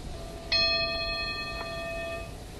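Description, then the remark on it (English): An old brass mine winding-house bell, of the kind used before electric bells were fitted, is struck three times at uneven intervals, each clang leaving bright metallic tones ringing and overlapping as they slowly fade. Clear, with no voices. “These brass balls were the old bells before they fitted electric bells in the winding houses.”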